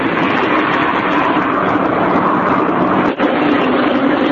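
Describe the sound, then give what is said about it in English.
A loud, steady roar of jet engines from a rear jet taxiing by about 10 feet away, a broad continuous rush with one brief dip near the end. “I got the Gulfstream AP on the left, the rear jet here on the right, about 10 feet away. Taxiing by.”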